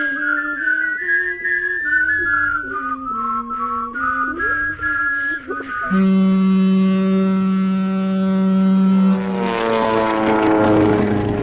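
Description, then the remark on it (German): An aircraft flies over the Mediterranean Sea with a wavering, whistle-like engine tone that settles into a steady, loud droning hum, then gives way to a rushing whoosh as the pitch falls away. “Gerade fliege ich mit meiner Europa-Schnellflugzeitmaschine über das Mittelmeer.”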